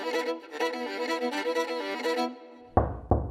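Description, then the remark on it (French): A tuneful, sustained melody plays for a couple of seconds, stops, then two sharp, loud knocks on a door land close together near the end. “Pam, pam, pam, ouvre-moi ta porte.”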